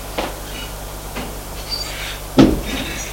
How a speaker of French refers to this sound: Il va vers elle, l'embrasse, elle le fait entrer, elle ferme la porte, elle lui dit, bon séjour.